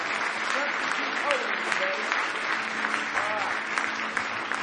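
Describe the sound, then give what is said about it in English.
An audience claps hands in praise of the Lord, a dense, steady wash of applause lasting several seconds, with faint voices calling out underneath. “Give the Lord one more hand clap of praise tonight.”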